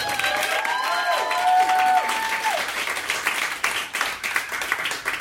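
audience applause and cheering

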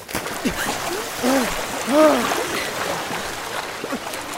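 fast-flowing river water

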